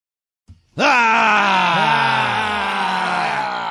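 A man lets out a loud, sustained growl lasting about three seconds, rough and gravelly with a wavering, slowly falling pitch, after a brief soft sound. No talking.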